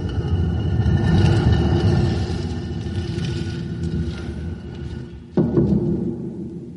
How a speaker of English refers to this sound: You held Abenazer in total derision, so now the stone door rolls back in position!